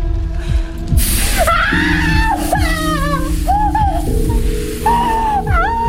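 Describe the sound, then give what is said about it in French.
A woman screams in pain while being tortured with a white-hot pincer, letting out several drawn-out, wavering cries that rise and fall, heard loud over a dense, sustained musical drone. “Les cris qu'elle pousse sont effrayants.”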